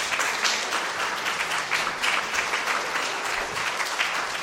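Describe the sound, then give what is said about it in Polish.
Sustained applause from a crowd for the actors of a performance, dense and steady with many hands clapping at once, filling the whole stretch at an even, fairly loud level. “Chodźcie jeszcze, żebyśmy wam mogli brawa zabić.”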